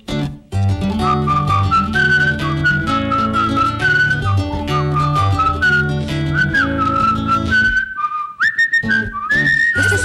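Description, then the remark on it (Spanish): Someone whistles a bright, short melody over a steady, bouncy musical accompaniment, with clear sustained notes that rise and fall before a brief pause near the end. “Y si el sombrero se va del coco, a quien le caiga, silbará un poco.”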